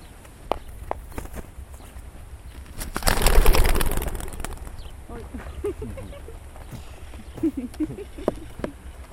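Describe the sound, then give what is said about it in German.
A sudden loud whirring burst of many wings as a flock of young racing pigeons is released and takes off together, fading after a second or two into soft cooing and scattered light taps. “Zunächst aber ruhen die Jungtauben etwa eine halbe Stunde, bis ihre transportbedingten Stresshormone abgebaut sind.”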